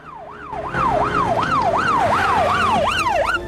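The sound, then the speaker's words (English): A police car siren blares in fast, repeating up-and-down yelps, loud, as the police car swerves into view, over a low rumble of road traffic with no one speaking. “Later, a police car swerves into view, sirens blaring.”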